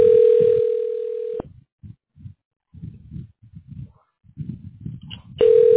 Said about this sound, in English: You can't hear this phone ringing right now? You're literally on the same mic.